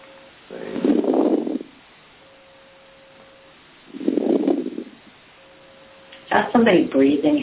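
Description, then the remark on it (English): During an online meeting, two loud, heavy breaths rush into a microphone, a few seconds apart, with a faint steady hum between them; a voice starts talking at the end. “Somebody breathing heavily.”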